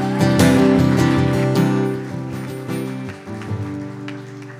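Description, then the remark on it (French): A church audience claps steadily for the Lord during a worship service, in a dense, crackling wash of applause over sustained keyboard chords. The clapping stays loud throughout, then thins slightly toward the end. “Je propose qu'on applaudisse le Seigneur parce que ça, il est tellement bon.”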